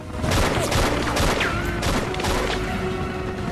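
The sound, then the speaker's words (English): A dense, loud barrage of gunfire fired from a helicopter at a man taking aim from among rocks, sharp cracks tumbling over one another in rapid irregular bursts with a constant roar underneath, with no voices. “He takes aim at the group but is fired on from the helicopter.”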